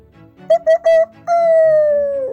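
A rooster named Jenggo on the Sukarasa farm crows loudly with three short, clipped notes followed by one long, drawn-out call that slowly falls in pitch. No other sounds accompany it.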